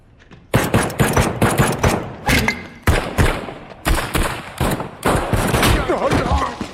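Rapid bursts of video game gunfire, a player shooting at enemies, crackle loudly and almost continuously, with sharp repeated shots and thuds layered over one another, and a voice briefly heard underneath.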